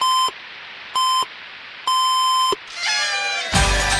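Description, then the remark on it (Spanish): Radio time signal beeps on Nacional radio mark midnight: two short, evenly spaced pips and a longer final tone, all at the same steady, bright pitch, followed by a swelling wash of noisy sound. “Y, por supuesto, en que se los dice la radio.”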